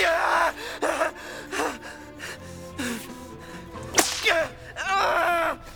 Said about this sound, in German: Diesmal griff der Dominus nicht zum Brandeisen, sondern zur Peitsche.